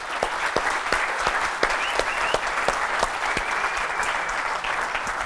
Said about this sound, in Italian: Quindi vi invito a fare un bel applauso